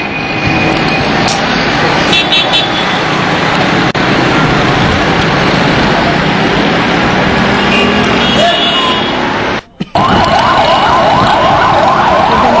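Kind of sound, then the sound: vehicle, ambulance sirens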